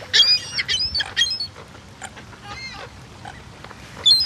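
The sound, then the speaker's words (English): Seagulls call in a raucous cluster, several overlapping cries at the start, quieter squawks in the middle, then another loud burst at the end, over a low rumbling background. “Look at the seagulls in there.”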